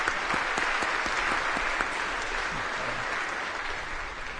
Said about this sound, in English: So today is a special day because we celebrate the Feast of the Pentecost, and also a special mention, our two brother and sister will receive their first communion today. So let us give them a round of applause.